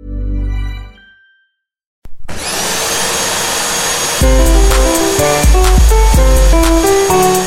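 A short low hum fades into a pause, then a vacuum cleaner switches on and roars steadily and loudly, while a bouncy music tune joins in partway through.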